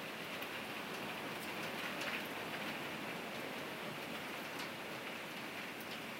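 Steady rain falls continuously, a dense, even hiss with occasional brighter drop patters, unbroken, with no voices.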